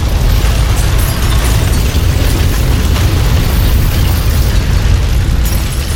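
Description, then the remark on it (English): A loud, unbroken roar of a massive fire raging through a factory after an explosion, with everything engulfed in thick black smoke; deep rumbling with a harsh crackling hiss on top, steady throughout with no voices. “Fire roars through the factory as everything is engulfed in a fog of thick black smoke.”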